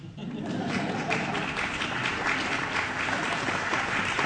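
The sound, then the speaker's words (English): An audience claps steadily for several seconds in applause for the brand Dot Lac, a dense, even patter of many hands at a fairly loud, constant level with no voices over it. “Usually we raise the clap in this moment.”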